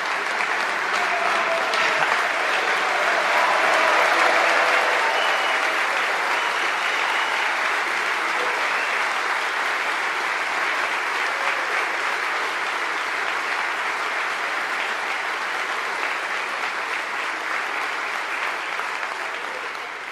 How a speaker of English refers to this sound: And these two individuals won the 2016 International Sniper Competition. So let me recognize them, and I'll ask for your applause.